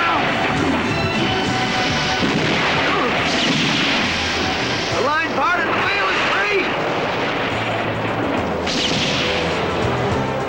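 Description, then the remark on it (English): A chaotic battle din between boats at sea: heavy crashes and booming blasts over rushing water, voices shouting in the fray, loud and continuous for the whole stretch. “Under Larson's approving gaze, the battle rages between the boats.”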